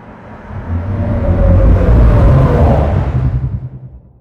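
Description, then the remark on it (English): A spaceship sound effect made from layered underwater recordings of different whales and sea creatures: a deep, rumbling engine-like drone swells steadily to a loud peak, with low groaning tones and a faint warbling, watery texture, then fades away over about four seconds. “And then this final version I made with some underwater recordings of different whales and sea creatures.”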